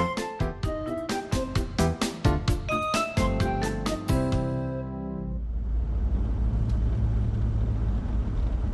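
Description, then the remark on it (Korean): A short run of bright struck musical notes rings out and decays, then gives way to a car's steady engine rumble and road noise as the car approaches from a distance, growing slightly fuller as it comes closer, with no talking. “멀리서 자동차가 다가옵니다.”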